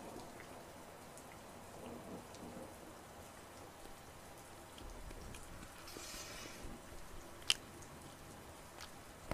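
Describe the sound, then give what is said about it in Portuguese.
Someone bites and eats cake with soft, crackly chewing and mouth sounds over a steady hiss, and one sharp click stands out near the end. No one speaks. “Pera aí, deixa eu dar uma mordidinha aqui no bolo.”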